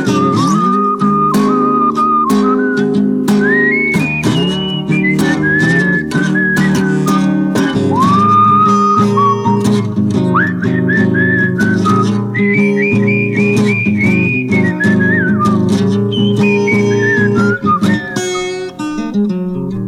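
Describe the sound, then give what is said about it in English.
A person whistles a bluesy melody with sliding, held notes, loud and up front over steady instrumental backing with bass and strummed chords, running continuously throughout. “Walking down the street, just whistle my blues away.”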